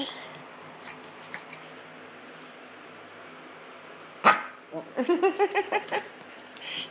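A playful dog gives one sharp, loud bark, then a quick burst of five or six excited, yappy barks in rapid succession over a low background hum.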